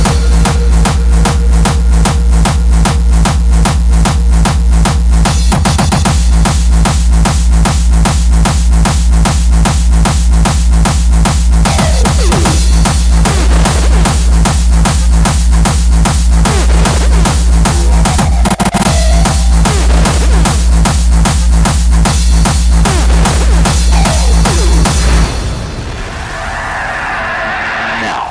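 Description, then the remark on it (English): A hardstyle beat being built up while making a hardstyle tune, with heavy bass drums added over hi-hats, claps and snares, pounds out loud, distorted bass drums in a fast, steady rhythm for about twenty-five seconds, then drops away to a quieter tail. No one speaks. “And then, add your heaviest bass drums.”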